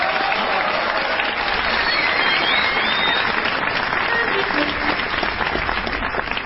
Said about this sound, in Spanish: Y bien, amigas, señoras, señores, extendemos el aplauso para recibir en este escenario a la plateada trompeta de ….